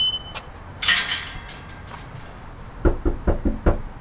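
A volunteer canvasser for the No on the Recall campaign knocks on a front door in a working-class neighborhood north of Sacramento, a brisk series of five firm, evenly spaced, fairly loud knocks preceded by a short jingling rattle; no one speaks.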